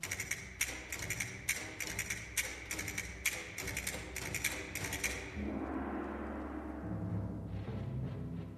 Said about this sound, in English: The castanets and the gong.